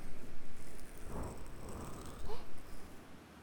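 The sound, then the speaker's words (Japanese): Steady wash of ocean surf, with waves swelling and breaking on the shore in soft surges at the start and again near the end, moderately loud. “目に映るこの景色も、心が落ち着く波音も、ここにいるあなたも、そして私も、全部これが幸せってことなんだなって思います。”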